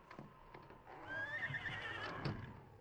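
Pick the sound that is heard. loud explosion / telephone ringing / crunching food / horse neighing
horse neighing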